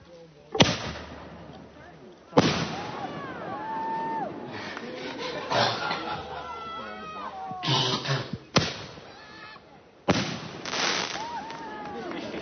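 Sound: fireworks exploding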